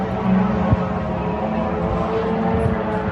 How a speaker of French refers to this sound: C'est devenu le quotidien des Ukrainiens depuis l'automne. En octobre, le son des drones kamikazes a retenti presque chaque jour au-dessus de l'Ukraine et ces attaques continuent, comme ce matin dans la capitale du pays.